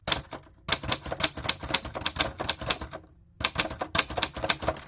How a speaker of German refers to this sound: Wahrscheinlich könnt ihr es euch schon denken. Genau, es ist die Schreibmaschine.